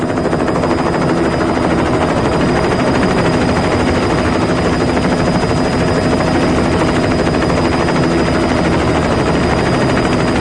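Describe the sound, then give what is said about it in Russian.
An approaching helicopter roars steadily, its rotor blades thudding in a rapid, continuous chop over a dense engine whine, loud throughout with no voices. “Казался игрушкой при взгляде на подлетающий вертолет”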